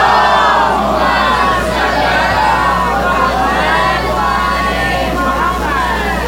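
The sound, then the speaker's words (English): A large crowd, with people representing Texas, shouts a loud salawat, many overlapping voices roaring together at a steady high level for several seconds, with a low constant hum underneath. “How many people in the crowd do we have repping Texas? Give us a loud salvat.”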